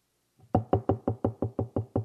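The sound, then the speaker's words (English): A rapid, steady series of about nine firm knocks on a door, evenly spaced, with no voices around them. “Yep, answer the door.”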